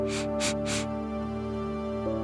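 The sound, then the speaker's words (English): Three quick, airy nose sniffs in a fast, even burst, fairly loud, taken as part of a calming breathing exercise, over a steady humming musical drone that carries on after they stop. “Scrunch up your nose and three sniffs.”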